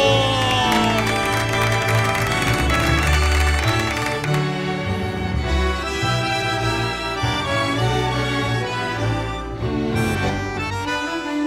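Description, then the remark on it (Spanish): An audience claps and cheers over loud, sustained instrumental music, the applause a dense crackling wash that is strongest in the first few seconds before the melody takes over. “La música de mi vieja con este aplauso, qué lindo.”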